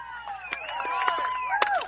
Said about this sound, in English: And the crowd letting him hear it here.